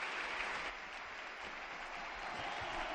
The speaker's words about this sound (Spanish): Vaya ovación para el Panda.